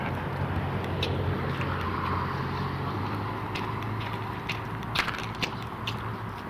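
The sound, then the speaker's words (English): A steady, loud roar of racing engines fills the scene, with a few sharp crunching impacts near the end like cars colliding at a motor speedway. No one speaks. “Crashing Cars, Motor Speedway.”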